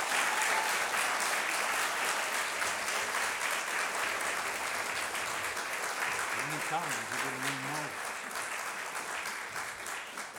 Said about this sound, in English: I think if you want to clap, that's fine. We can still call that consecration.